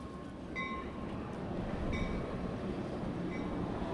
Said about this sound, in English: The train that runs through the middle of Lodi stops to drop off passengers at the edge of a downtown that's making a comeback.